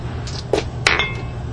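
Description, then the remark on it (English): Dice rattle and clatter across a hard surface as damage is rolled in a game, with a couple of sharp clicks standing out among fainter taps over a low steady hum. “Come on, dice, don't kill me now.”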